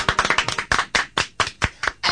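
Brief, sparse applause: about a dozen sharp hand claps, quick and overlapping at first, then settling into a steady, evenly spaced rhythm. Moderately loud, with no voices.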